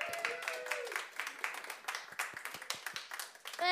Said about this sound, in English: But yeah, will you please give a big round of applause for comedian